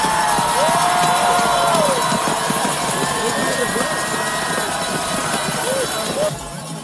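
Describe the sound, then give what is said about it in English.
A large crowd roars and cheers continuously as Jesse Diggins comes into the finish to win the 2024 Slumberland American Birkebeiner race, many overlapping voices shouting and whooping in a loud, dense wall of sound that holds steady throughout and eases only slightly at the very end. “And here we go, coming into the finish, it's Jesse Diggins to the roars of the crowd in the first ever Berkey Berkey.”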